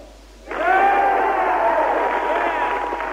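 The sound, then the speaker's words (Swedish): A crowd of state delegates suddenly bursts into loud applause mixed with cheering and shouted yells of "yes", sustained at full volume for several seconds with many overlapping voices, answering Larry King's question on CNN about whether Perot should run, 1992. “På frågan om hur många som vill att Perot ställer upp svarade de församlade som ni kunde höra med ett rungande applåd ackompanjerat ja.”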